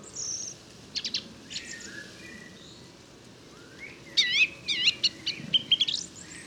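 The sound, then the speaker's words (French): A song thrush sings in bursts of sharp, repeated whistled notes over a steady low outdoor rumble, with no one talking. “En plus, la grève musicienne est deux fois plus éloignée que le merle noir.”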